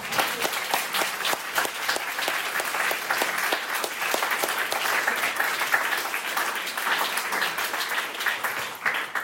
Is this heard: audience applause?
yes